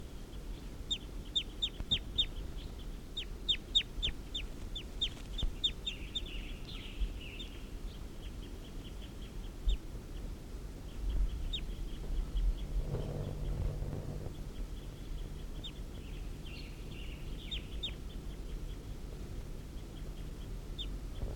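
Wild birds call in bursts of short, high chirps and clucking notes, fairly faint over a steady low rumble that swells briefly partway through. No one speaks.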